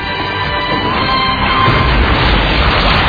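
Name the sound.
explosion sound effect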